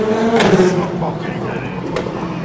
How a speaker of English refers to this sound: Listen to that. There go the United Autosport LMP2 cars, skeetering away, skidding, drifting as they pull away from that iconic diagonal position that they line up all the cars on the start-finish straight.